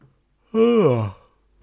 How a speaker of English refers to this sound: That's a yawn. See, that yawn, I don't even know if that yawn was a, oh, I'm still waking up at the beginning of my day type yawn, or a, oh, it's 4 a.m, I'm tired for staying up so late type yawn.